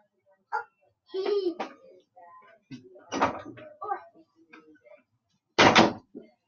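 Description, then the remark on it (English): A door, which a child has just been told to close, swings shut with a short, loud thud near the end, preceded by scattered shuffling and handling noises with faint, muffled voices. “Close my door.”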